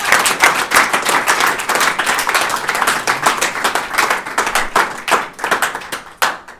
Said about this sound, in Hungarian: Fogadjátok sok-sok szeretettel és óriási tapssal